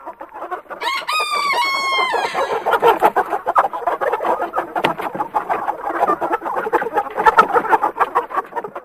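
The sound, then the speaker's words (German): A rooster lets out a loud crow near the start as it flies down from a bale of straw, followed by a dense, continuous chorus of hens cackling and clucking, busy and agitated throughout, as they run out through an opened door. “Laut gackernd flog der Hahn von einem Ballen Stroh, der ihm als erhöhten Standort gedient hatte, um alles überblicken zu können.”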